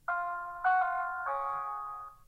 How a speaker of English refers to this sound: No, it's Arkham Asylum. It's the chime that we hear every time the Joker is about to make an announcement.